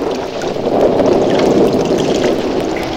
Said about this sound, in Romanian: Ia privește norii aceia ce se învârtejesc la orizont. Da, da, da. Ia furtuna!